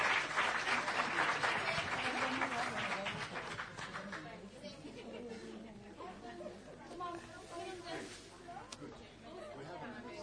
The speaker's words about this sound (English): But they did a wonderful... Let's clap for them once again. They enjoyed themselves.